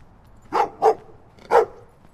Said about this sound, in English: Got some guard dogs.